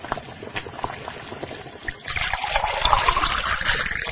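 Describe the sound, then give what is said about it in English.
A few soft clicks and taps, then boiling water is poured steadily onto instant noodles in a container, a rushing gurgle that rises slightly in pitch as it fills. No one speaks. “When the water is boiling, add the water to the noodles.”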